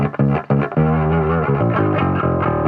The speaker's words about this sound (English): It's a little hashy. There's no low end to it. So it's actually a useless bass tone.